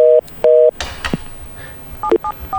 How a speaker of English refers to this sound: Now, as you can see, the system produces dial tone and busy reorders and stuff just like any other system.